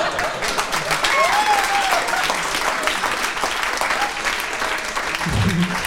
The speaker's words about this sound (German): Ja, entweder richtig oder gar nicht klatschen, was ist das denn?